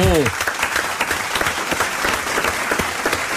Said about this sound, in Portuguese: E agora, uma salva de palmas para cada uma das 80 lojas.